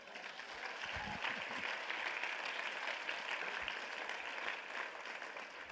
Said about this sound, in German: Vielleicht mal einen Applaus an die Technik zwischendurch.